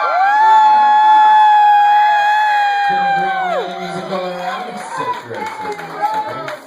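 A loud sustained, siren-like tone slides downward and fades, giving way to an audience clapping and cheering in a steady, noisy wash for the last few seconds, at the end of a night of live music.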